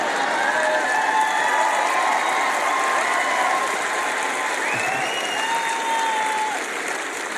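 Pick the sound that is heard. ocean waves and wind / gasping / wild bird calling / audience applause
audience applause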